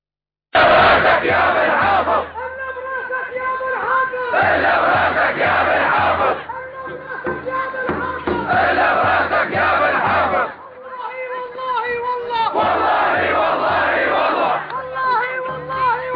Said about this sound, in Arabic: مشاهدي الكرام، ها هي مظاهرة الأحرار في مدينة إنخل في ريف درعا تضامنا مع مدينة حمص العادية